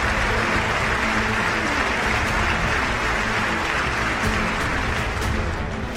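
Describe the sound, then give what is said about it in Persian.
A standing ovation from representatives in the US Congress: sustained applause from a large crowd fills the whole stretch, a dense, steady roar of clapping with no pauses and no voices standing out. “مثلا فرض کنید در کنگره آمریکا برای تک تک شدن هزاران کودک نمایندگان بلند میشن، برای قاتل کف میزنن و تشویق میکنن.”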